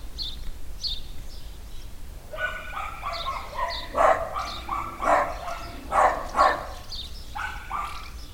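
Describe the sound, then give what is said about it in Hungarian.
Several dogs in the village of Mocsolyás bark again after someone called out to a man stepping out of a house, their barks overlapping in irregular bursts that rise and fall, with faint chirping birds and a low outdoor rumble beneath. “akkor újra elkezdtek ugatni a kutyák”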